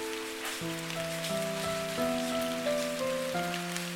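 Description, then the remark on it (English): Steady rain patters on a surface, a dense continuous hiss dotted with individual drops, while soft sustained musical tones shift slowly underneath. “The teak stood firmly, even when it rained.”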